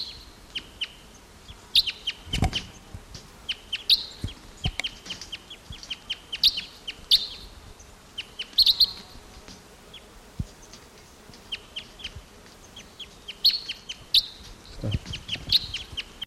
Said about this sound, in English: Some crossbills here now. There's a male. Deep voiced male here. With another bird.